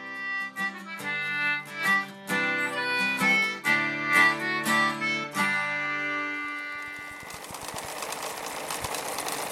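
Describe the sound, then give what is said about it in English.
A short musical phrase of bright, plucked-sounding notes gives way to the steady whir and rapid mechanical ticking of a sewing machine running at a moderate, even pace, in an advert for Singer Sewing Vac, a sewing machine and vacuum repair shop in Somerville. “Your one-stop shop for all your sewing machine and vacuum repair needs.”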